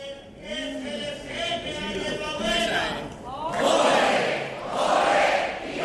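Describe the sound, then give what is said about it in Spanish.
A carnival troupe's traditional group shout: many voices chant together in a rising, rhythmic call, swelling into loud collective yells in two big bursts toward the end. “Ahí estaba el grito, tirando a lo clásico, ¿eh?”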